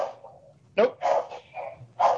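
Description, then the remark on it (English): A dog barks several times in short, sharp bursts, moderately loud, with a low steady hum in the background. “Can you guys hear the dog?”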